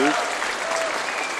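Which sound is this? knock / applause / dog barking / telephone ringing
applause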